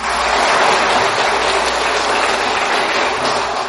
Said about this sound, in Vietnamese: Rồi khoảng là 15 người, xin cho một tràng pháo tay.